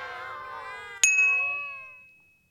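Cats meowing in a soft, wavering chorus, cut off by a bright metallic ding whose ringing tone fades slowly away. No one speaks.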